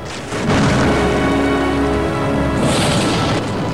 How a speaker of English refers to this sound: A few moments later, lightning strikes the oak tree, sending out a flurry of leaves.